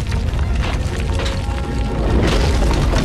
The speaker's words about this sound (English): As the avalanche of logs tumbles towards them, Chris grabs Ferris and pulls her to the ground. Her car, flipped into the air, appears about to crush them, but is just stopped by a rolling log.